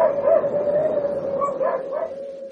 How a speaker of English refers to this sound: You should tell the Huskies, Chief. They've been going on bloody non-stop.